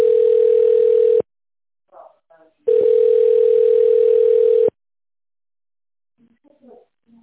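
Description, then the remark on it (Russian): Two long, steady telephone ringback tones on a call to the company Kapital while waiting for an answer, each about one to two seconds, separated by a pause, with brief faint voice fragments between them and afterward. “Пожалуйста, наберите добавочный номер сотрудника или дождитесь ответа секретаря.”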